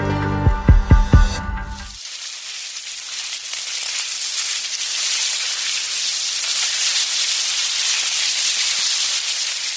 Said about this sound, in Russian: Это муравейник. Постоянное шуршание, щелканье и стрекот. К примеру, так муравьи едят.